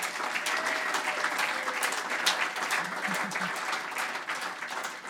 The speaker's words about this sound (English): round of applause for her too, thanks.